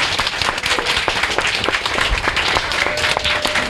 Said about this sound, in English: And I need to hear you guys. Hand of applause for my homeboys up here. Woo! louder.